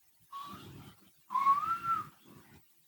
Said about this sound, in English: Hear that? That was a ghost. It's a ghost whistling.